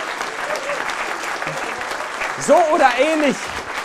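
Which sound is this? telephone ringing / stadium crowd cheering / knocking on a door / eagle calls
stadium crowd cheering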